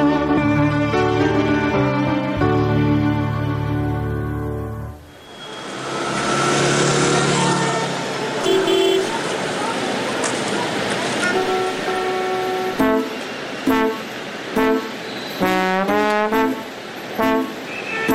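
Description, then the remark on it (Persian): Busy street traffic rumbles steadily, cars waiting at traffic lights with people between them in light drizzle, while car horns sound, first a long sustained blare, then several short, overlapping honks near the end, fairly loud. “ماشینا پشت چراغا، آدمام بین اونا، توی دود فول میزنن رو آسفالت خیابونا، بارونم نم نم آروم میریزه رو سقف پل”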